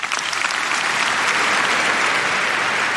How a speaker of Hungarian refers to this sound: Pater Lombardi felkérése után Leó pápa átadta Riccardo Muti karmesternek a Ratzinger díj diplomáját, amelyet a 6. Pálaulát megtöltő mintegy 5000 résztvevő hangos tapsal jutalmazott.